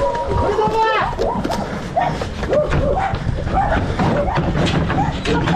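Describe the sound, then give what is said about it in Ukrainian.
Several dogs bark, yelp and whimper in quick, overlapping bursts as they are loaded up in the frontline town of Gornyak, a restless, continuous chorus over a busy, noisy background. “Собак грузим самостоятельно и бегом на следующий адрес.”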